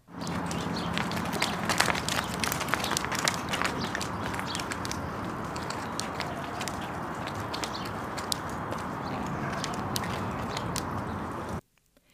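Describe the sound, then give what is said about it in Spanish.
Reindeer legs click steadily as the reindeer walk, a dense stream of sharp clicks over a constant shuffling, crunching bed of movement that runs without pause before cutting off abruptly. “Las patas de los renos hacen un crujido característico cuando caminan.”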